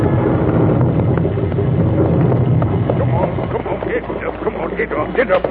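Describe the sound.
Heavy wind roars steadily on a winter night in the rain over the plod of horse hooves and a rumbling mail coach topping a hill on the road east to Dover in 1768, with indistinct voices rising near the end as the noise eases slightly.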